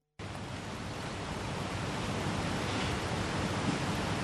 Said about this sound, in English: The river is looking quite swollen, isn't it? Yeah. There's been a lot of rain over the last week or so.